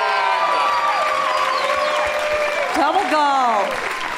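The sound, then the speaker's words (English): A crowd applauds Tony nominee Alex Brightman steadily with loud, dense clapping, mixed with cheering and high whoops and shouts rising and falling over the top throughout. “Speaking of shows I'm gonna see again, let's hear it for Alex Brightman, everybody.”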